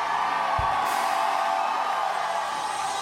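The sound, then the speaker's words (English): A large crowd screams and shouts together in a loud, sustained roar that holds steady for a few seconds without any clear individual voice standing out. “I wish somebody would throw your head back and let out a scream that hell can hear.”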